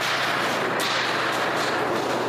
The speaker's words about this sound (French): Celui de la tôle et des tronçonneuses. Les opérations de déblayage continuent.